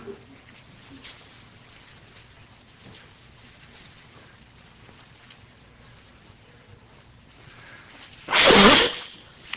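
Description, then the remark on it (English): Several seconds of faint, low background hum give way to one sudden, loud, harsh burst of nose blowing and coughing by a preacher, lasting about half a second, then quiet returns. “Blowing my nose and hacking and coughing, eyes running.”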